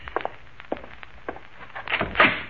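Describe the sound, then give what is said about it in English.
The door to a wife's room being knocked or handled: a few soft, spaced thumps, then a louder burst of rattling and creaking near the end, with no voices. “That the door to your wife's room right there, huh?”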